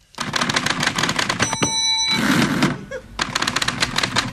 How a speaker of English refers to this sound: how I can recreate a typewriter sound effect on my keyboard. Yeah, on my computer. Why is it pinging at the end?